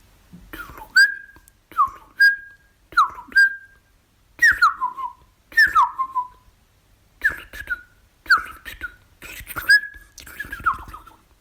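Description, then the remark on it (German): A song thrush sings alone, delivering about ten short, bright whistled phrases in quick succession, each opening with a sharp click-like note and often repeated before the next variation. “Tschüss, sagt die Singdrossel.”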